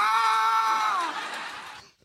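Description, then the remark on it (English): A person screams loudly into someone's ear: a single high-pitched scream held for about two seconds, piercing, then trailing off and fading near the end. No talking alongside it. “Just loud screaming just in their ear.”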